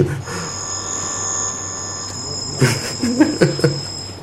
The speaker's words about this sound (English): Something new. I thought it was somebody ringing the bell on the altar. It's a kind of electronic bell.